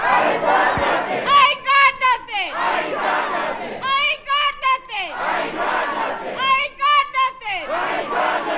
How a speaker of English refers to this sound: Last night, dozens of people carried protest signs into the chamber and chanted a variation on Lewis's last words.